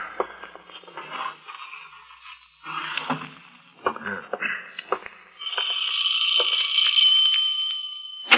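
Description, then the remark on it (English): Clattering and shuffling noises give way to a doorbell ringing in a steady, continuous electric peal for about three seconds, fairly loud, near the end. “I suggest you put the manuscripts away before you answer the doorbell.”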